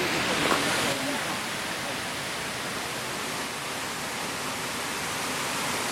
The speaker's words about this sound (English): because we can see the falls cascading white water right down the rock face here. Yeah, and it's freezing, of course, as it's the last few days, certainly the temperatures have been so cold.